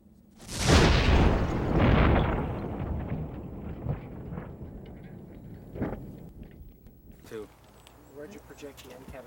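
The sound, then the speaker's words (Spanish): A single powerful explosion of a small pipe bomb in a cardboard box by a car bursts out loud, then trails into a long rumbling decay with scattered debris sounds as fragments pierce the car's steel door and roof; faint voices emerge near the end. “Rápidamente se hace evidente lo destructivas que pueden ser estas pequeñas bombas de tubo. Esta explosión fue tan poderosa que parte de la caja de cartón perforó la puerta de acero del auto.”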